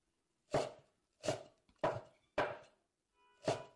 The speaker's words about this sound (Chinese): 怎么，这么喜欢看姐姐切菜吗？好看。觉得好看的话，那你就看着吧。